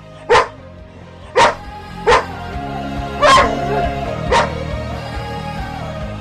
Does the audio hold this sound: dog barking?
yes